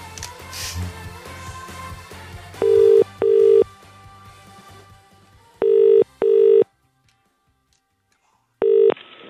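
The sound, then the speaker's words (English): A telephone ringback tone on an outgoing call to a company purrs in paired bursts, a double ring repeating with short gaps, loud and clear over faint background music that fades out early on. “Are you ringing?”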